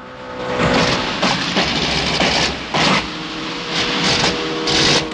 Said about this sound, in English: Bond looks round to check on the boat behind him as the engine starts to splutter.